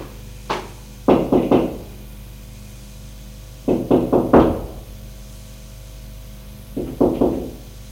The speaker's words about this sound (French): Un matin, comme tous les matins à 8 heures, Nicolas va frapper à la porte de la chambre de Matthew.